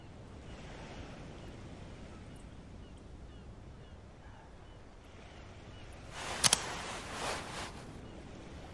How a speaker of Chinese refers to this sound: 这儿的海风更强烈了，我们从这里能看到整个海湾。